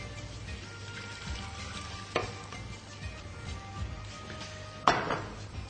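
Steady sizzling and bubbling from a cooking pot of meat, garlic, onion, tomato paste and tomatoes, with sharp metallic clinks around two seconds and near the end, as half a litre of water goes into the hot pan. No one speaks.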